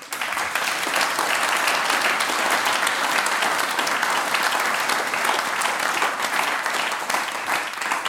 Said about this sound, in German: Einen großen Applaus für unser heutiges SUMT-Team.